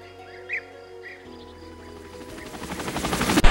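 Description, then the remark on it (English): A video game helicopter approaches on a mountain-summit stage, its rapid rhythmic chopping growing louder over a few seconds, with brief bird-like chirps early on and a sharp burst of gunfire near the end. “This helicopter?”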